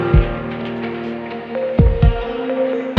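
A steady electronic hum of machines drones throughout while deep, soft thumps like a heartbeat pulse beneath it in time, one early beat and then a double lub-dub near the end.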